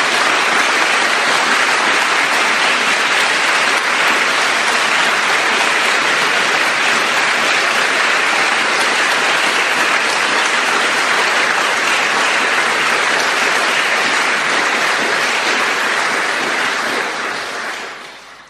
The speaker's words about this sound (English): think I even saw the mayor of Liverpool clapping at that.